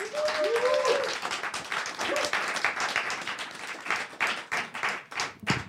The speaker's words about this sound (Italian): Quindi io chiamo sul palco con un applauso fortissimo